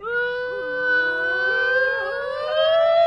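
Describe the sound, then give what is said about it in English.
A troop of boys at Matiki Camp howls together from the top of a human pyramid as a welcome, a loud, sustained, siren-like wail, several overlapping voices holding long high notes that slowly rise in pitch for about three seconds, with no talking. “But first you must hear our troop howl from the top.”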